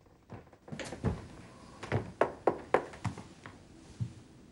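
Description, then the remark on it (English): A knuckle raps on the open door of a Beatty's Halls of Residence flat: a series of sharp, hollow knocks, several in quick succession in the middle, then a final single rap after a short pause, with faint background noise. “He raps on the door with a knuckle.”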